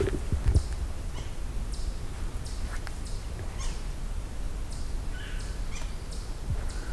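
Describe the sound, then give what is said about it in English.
Three or four yellow-bellied sapsuckers giving a series of nasal, mewing, cat-like calls, the birds calling back and forth over a steady low outdoor rumble. “Got some yellow-bellied sapsuckers here. At least a couple of them.”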